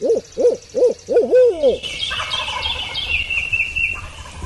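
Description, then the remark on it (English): A turkey hunter imitates an owl with a quick, loud series of rhythmic hoots, about five in under two seconds, as it grows dark, after hearing a turkey's wings going up; then the call stops and softer outdoor sounds and bird calls continue. “And then he hears the wings of a turkey going up, and he gives out a quick hoot.”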